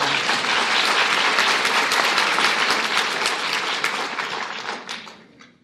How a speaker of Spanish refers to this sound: Pero que con mucho gusto lo dedico a las que me aplaudieron.